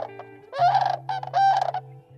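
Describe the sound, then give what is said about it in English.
Sandhill crane calls: two loud, rolling bugle-like bursts with a rattling, trumpeting quality, over a steady low hum and with no one talking. “the primary reason was to protect habitat for the sandhill crane”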